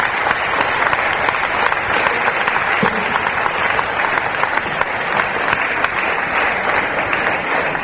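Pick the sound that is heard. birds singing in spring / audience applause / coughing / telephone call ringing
audience applause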